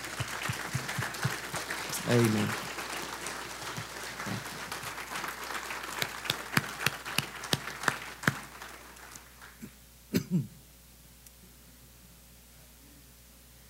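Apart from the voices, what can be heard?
audience applause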